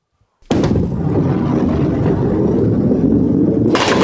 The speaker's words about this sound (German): Na, auf einer Kegelbahn. Na, das habe ich mir ja gleich gedacht. Und hier mit der Kugel versuche ich gleich die Kegel da hinten umzukegeln. Passt auf.